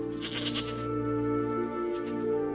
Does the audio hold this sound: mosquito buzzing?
no